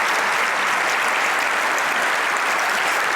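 Loud, sustained applause from a large audience, a dense wash of clapping that continues steadily without pause and without any voices standing out.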